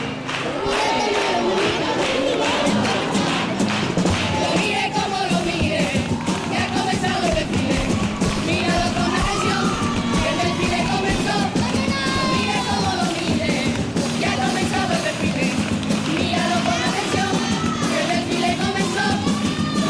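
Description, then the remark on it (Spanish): A large crowd applauds and cheers loudly and continuously for a chirigota group at the end of its potpourri, with scattered shouts and whoops rising above a dense wash of clapping that never lets up. “Modelo de chirigota en su final de popurrí, recogiendo el aplauso del público en este final.”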